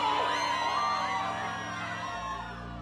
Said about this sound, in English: listening to the startled screams of innocent spectators.